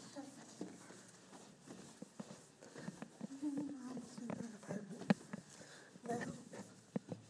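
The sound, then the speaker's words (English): Footsteps walking down a hallway in an apartment building toward an apartment, a steady series of soft taps with a few sharper knocks, with faint murmuring and background noise underneath. “I'm going to record this last little bit while I'm walking down the hall towards our apartment.”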